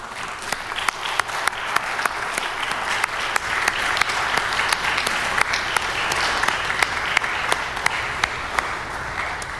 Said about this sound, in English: if you are a mother this morning, could you stand again? And could we give you a round of applause for who you are?